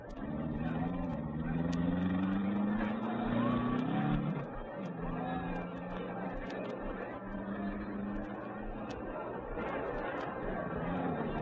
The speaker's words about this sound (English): The cars were being driven slowly into their starting positions along the track.